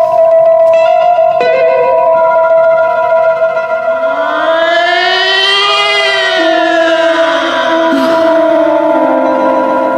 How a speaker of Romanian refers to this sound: Sirena asta care sună alarma.